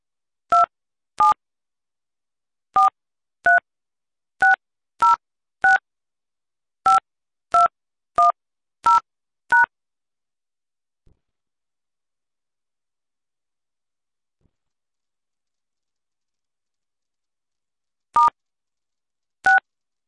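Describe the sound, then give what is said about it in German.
Telephone keypad tones enter a meeting number followed by pound: a dozen short, clear two-note beeps in an uneven rhythm, then a long pause before two more beeps. No one speaks. “Enter the meeting number followed by pound.”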